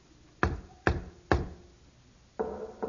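Three firm, evenly spaced secret knocks on the door of a house ring out, followed after a short pause by a softer, more muffled rattle or thud with no one speaking.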